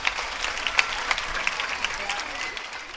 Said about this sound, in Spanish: Pedimos un fuerte aplauso para recibir a nuestra directora